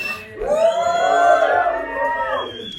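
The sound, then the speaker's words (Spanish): An audience, asked to shout, shouts together in a loud, sustained roar of many voices, rising around half a second in and holding before tapering off near the end. “No escuché quién fue quien gritó, pero sí estuvo medio rudo.”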